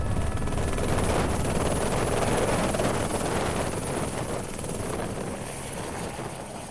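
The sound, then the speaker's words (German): A helicopter lands on the Aletsch Glacier near Concordiaplatz, at about 2,700 m, and drops off passengers: a steady, loud rotor thrum and rushing wind noise, gradually easing slightly as it settles; no one speaks. “Und sind dann über den Aletschgletscher durchab, kurz vor dem Concordiaplatz, dort wo all die vier grossen Gletscher zusammenfliessen, ist dann das Wrack gewesen und dort hat uns dann der Helikopter abgesetzt.”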